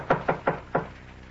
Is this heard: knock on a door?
yes